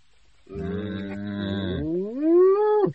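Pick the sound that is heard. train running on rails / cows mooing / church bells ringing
cows mooing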